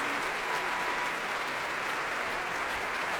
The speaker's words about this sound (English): Very warm applause from what is, for this sort of programme, really a very good house.